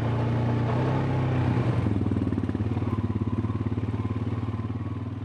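A four-wheel all-terrain vehicle engine revs up close by, then settles into a loud, steady throbbing chug. No one speaks.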